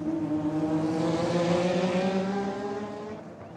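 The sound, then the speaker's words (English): Race car engines roar past in a steady, high-pitched whine, the sound sustained and loud before tapering slightly at the end, with no voices present. Car racing sound as captured for the sports television channel ESPN. “Instead of musicians, now I was capturing the sound of car racing, tennis, baseball, football, whatever they sent my way.”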